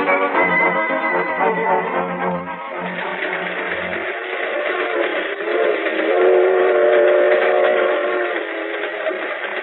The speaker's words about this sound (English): When's this here freight train get to Des Moines? This is a highball freight, kid. She's been hitting high iron ever since we jumped aboard at Kansas City. We're in the outskirts of Des Moines now.